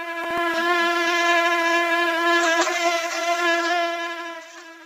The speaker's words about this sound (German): Mücken können schon manchmal nervig sein, besonders wenn sie hungrig sind.